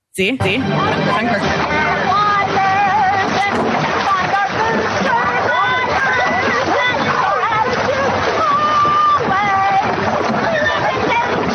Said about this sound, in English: I mean, she's on the sea. She's singing a shanty here. Actually, let me play. Shanty, very shanty-esque.